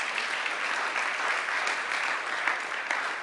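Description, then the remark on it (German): An audience claps steadily, a dense patter of many hands at an even loudness throughout, with no voices rising above it. “Das ist auch das, worauf ich gleich erstmal einen Beifall.”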